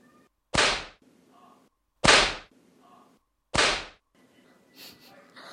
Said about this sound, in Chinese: 光听到鞭子的声音，肉棒就有反应呢。这支鞭子真没白抽呢。